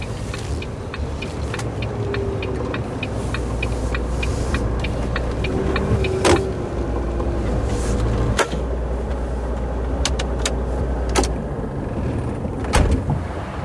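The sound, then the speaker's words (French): A steady low engine rumble fills the scene beside a truck at a motorway rest area, like idling heavy vehicles, with a regular ticking pattern early on and a few sharp knocks and clunks scattered throughout. No one speaks. “Là, on est à côté du camion, sur l'aire d'autoroute.”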